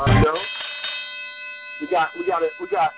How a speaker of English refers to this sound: We got a double dip calls. So we should ring the bell two times for that. Ring the bell twice.